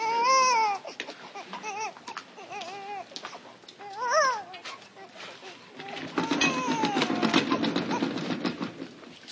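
baby crying

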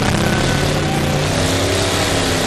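revving car engine

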